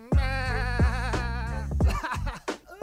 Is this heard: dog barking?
no